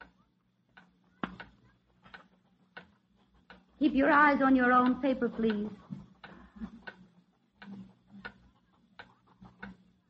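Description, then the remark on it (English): A wall clock ticks steadily in a classroom during a written test, sharp, evenly spaced clicks over a low hum, with a woman briefly speaking in the middle of the ticking. “Now as the 40 pens of 7B put answers on an empty page, and the wall clock ticks, the door swings open”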